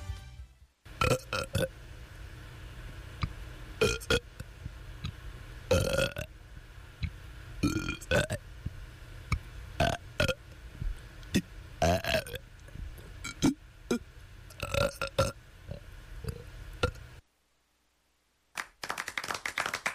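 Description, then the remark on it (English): A long, deliberate burping performance, the 33rd Best Burp Performance from Otsego County's 19th Biannual Burp Review, 1994: a rapid string of loud belches, some short and popping, others drawn out and rumbling, with handclaps or taps scattered among them before a brief silence. “This is WONY Oneonta here to present the 33rd Best Burp Performance from Otsego County's 19th Biannual Burp Review, 1994.”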